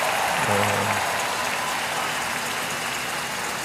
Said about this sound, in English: Go ahead, give the Lord a big round of applause for them.